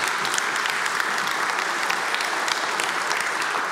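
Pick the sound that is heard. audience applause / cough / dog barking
audience applause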